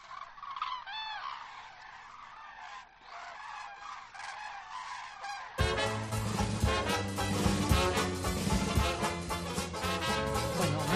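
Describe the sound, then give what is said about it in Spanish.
A flock of cranes flying in V formation calls with overlapping trumpeting, bugling cries, moderately loud at first, then swelling abruptly halfway through into a dense, loud chorus of many birds calling at once. “Son muy ordenadas las grullas.”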